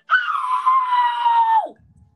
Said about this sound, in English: Wow, what a scream.